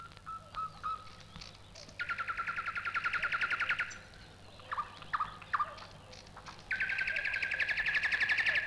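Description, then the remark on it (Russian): A nightingale sings: short sharp notes alternate with two long, rapid, buzzy trills, loud, with no talking. “Выступает солист кустового ансамбля, заслуженный артист леса Соловей.”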